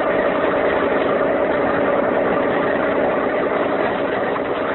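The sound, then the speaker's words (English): A police launch's motor runs steadily as the boat searches San Francisco Bay, a loud, continuous droning rumble with no breaks or changes in pitch, heard on its own without voices. “While Captain Friday and Andres Ruiz search San Francisco Bay in the police launch,”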